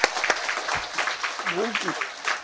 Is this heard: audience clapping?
yes